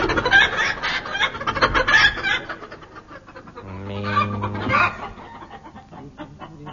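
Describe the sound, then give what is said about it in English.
A rooster clucks in a rapid, jittery burst, then lets out a longer, drawn-out squawk before trailing off into fainter clucks. It is fairly loud, with no talking. “I think the rooster's sick, Min.”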